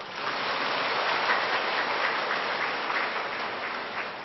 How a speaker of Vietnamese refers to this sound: Xin cho tràng pháo tay.